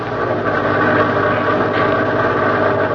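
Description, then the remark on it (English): A bus engine idles steadily on a bus in Los Angeles carrying Jack Benny in a radio comedy scene, a loud continuous low rumble with a faint mechanical vibration and no one speaking. “We now pick up Jack Benny on a bus somewhere in Los Angeles.”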